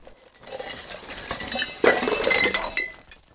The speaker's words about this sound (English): Rice dripped in a bowl.